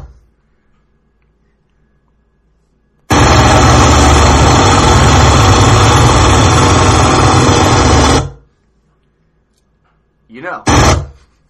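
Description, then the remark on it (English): A jackhammer operated by a man outside roars on abruptly and pounds away steadily and loudly for about five seconds, then cuts off; after a pause, a second short burst follows. “I never thought that a man with a jackhammer would be so loud, out and interrupt.”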